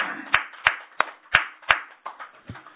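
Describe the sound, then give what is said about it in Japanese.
Hand clapping sent as encouragement to mothers around the world on Mother's Day: about seven distinct claps at a steady, unhurried pace, fairly loud, with no voices. It sounds like one or a few people rather than a full crowd. “今日は母の日ということで、全国世界中のお母さんにですね、声援として拍手を送りたいと思います。”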